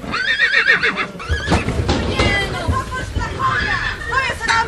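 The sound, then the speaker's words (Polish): Nervous horses neigh in shrill, wavering whinnies, a long one at the start and more toward the end, as they are unloaded at night in heavy rain, over a steady hubbub of a crowd of people talking and the occasional clatter of hooves. “Konie były zdenerwowane, próbowały się wyrywać.”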